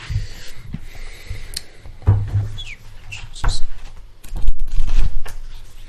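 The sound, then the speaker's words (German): Pages of a book being leafed through, with soft papery rustles and a few sharper flicks scattered irregularly over several seconds, no one speaking. “Heute haben wir, wie du dem Titel schon entnommen hast, Dr. Hughes und wir blättern gerade.”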